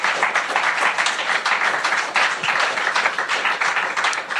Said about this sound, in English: Anybody listening to the live stream, that's real applause. We do not have a track.